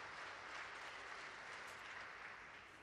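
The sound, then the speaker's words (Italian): Steady, dense applause from a large crowd fills the Sala Clementina as the Pope enters, a continuous wash of many hands clapping, fading a little at the end, with no voices. “Sentite ovviamente gli applausi in sottofondo.”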